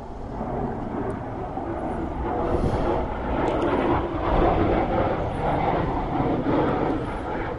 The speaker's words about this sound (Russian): Ну, о, самолет летит. Над Мертвым морем истребитель. Сейчас он пройдет.